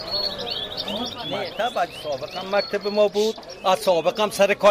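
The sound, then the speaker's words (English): A caged bird sings a bright, busy stream of chirps and warbling trills, fairly loud, on a street in Kabul, Afghanistan, with indistinct voices murmuring in the background. “the mood on the street was out of tune with the caged bird's cheerful song.”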